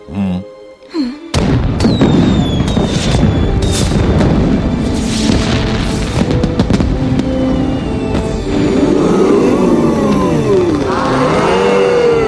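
Fireworks set off for a wedding anniversary erupt after a brief quiet start into a loud, dense barrage of booms and crackling bursts, with high whistles shrieking through, and sweeping whistling rockets rising and falling toward the end.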